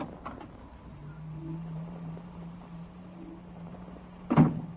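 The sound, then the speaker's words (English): The door of a projection booth at a movie grindhouse called The Outpost swings open with a low, drawn-out creaking hum, then ends in a sharp knock as it stops or bumps. A soft click comes just before, and no one speaks. “I got a feeling up my back the minute you opened the door.”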